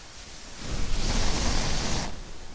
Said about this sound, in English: Crumpling it up in my hands and, you know, sort of crumpling the feathers inside, running my nails across the surface of the pillow, beating the pillow.